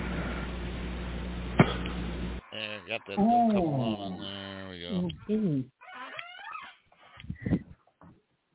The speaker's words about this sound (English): I'm sorry, that's my squeaky chair there, yeah.